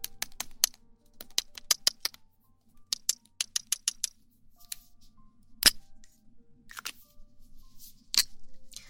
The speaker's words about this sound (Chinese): 先做一下写字的声音。